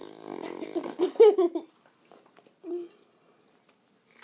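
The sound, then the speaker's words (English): A voice blows a wet, buzzing raspberry that imitates a fart at dinner, fairly loud for about a second and a half, followed by a short low grunt and quiet table noises. “I'm gonna do a fart.”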